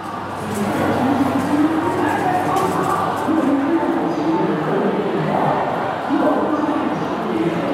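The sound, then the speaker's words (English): A dense crowd of people sitting in the main arrivals hall of Hong Kong airport murmurs, many overlapping voices blending into a steady, indistinct babble that holds an even loudness from start to finish, with no single speaker standing out. “I'm here in the main arrivals hall of the Hong Kong airport, and there's a crowd of people just sitting here.”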